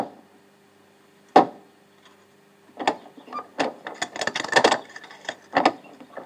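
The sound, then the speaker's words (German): A single sharp knock on the wooden door of a Benedictine convent housed in a castle, a pause, then a longer run of uneven, hollow knocks and rattling clatter, fairly loud against a quiet background with no voices. “Und in diesem Schloss selbst befindet sich heute ein Kloster, und zwar ein Benediktinerinnenkloster, und man hat mir erlaubt, das Kloster auch von innen anzusehen, und ich will jetzt gleich einmal an die Tür klopfen und sehen, ob mir geöffnet wird.”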